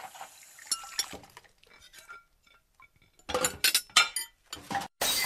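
Dishes and plates clatter in a sink, starting with scattered clinks and sharp taps, then building into a loud burst of banging, clanking crockery with a splash of running water at the end.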